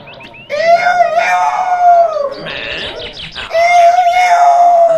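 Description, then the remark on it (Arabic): A rooster crows loudly in a forest: two long, drawn-out calls separated by a brief, rougher break, with no talking. “نظر جيدا فإذا بصاحبه الديك المريض قد شفي، وقد عاد يصيح بصوت عال في الغابة.”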